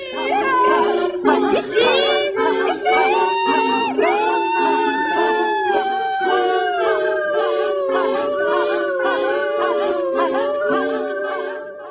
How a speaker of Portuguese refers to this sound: Esperamos que vos teñan gustado moito os nosos berros. Pois sí, hoxe estamos aquí apoiando a folga do 8 de marzo, empregando o noso espazo en Cuac FM para favorecer o activismo.